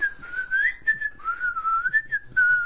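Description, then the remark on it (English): A person whistles a wavering, meandering tune while playing Scrabble, the pitch sliding up and down continuously for a few seconds, clear with no talking. “So you were whistling after you had your go as well?”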